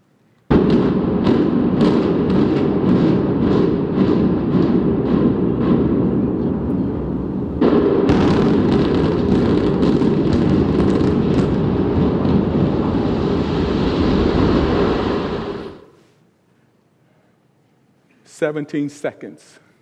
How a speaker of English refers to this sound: It took 17 seconds to destroy a building that had stood for over 50 years. Pretty amazing.